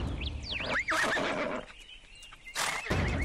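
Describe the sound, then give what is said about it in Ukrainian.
A hobbled horse grazing by tents, moving restlessly, whinnies loudly, its high wavering call rising and falling, followed by snorting breaths and a second burst of neighing near the end. “Навіть спутані коні, які паслися біля наметів, почали неспокійно крутитися, стригли вухами і роздували ніздрі.”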